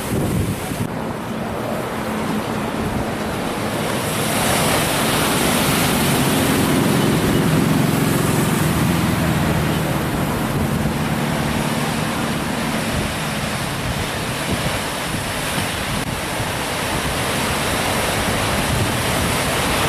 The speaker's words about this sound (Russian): Хотел сказать, пришла зима в Санта-Крус. Ну, это я так, может быть, утрировал бы. Вот. Волны, серферы. Привычная картина. Да. И так ветрено очень. Волны хорошие. Да, волны замечательные. Ну, если ветрено, то волны, конечно.